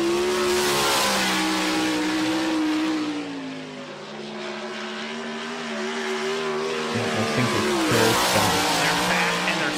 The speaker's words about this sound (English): This is my son. He's 19 years old, and this is his 410 sprint car. Yeah, and these things are terrifying. And this is at my track, by the way. I own this track.